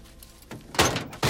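A heavy truck cab door is kicked open with a loud, sharp thunk, followed by a brief rattle and a second solid impact as a woman climbs out.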